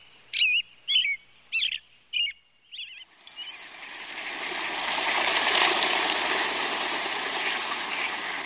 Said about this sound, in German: Das Rotkehlchen.